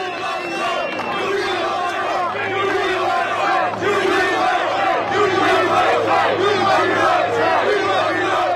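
A large crowd in New York roars and shouts continuously, a loud, dense wall of cheering and yelling voices that swells in waves for several seconds without letting up.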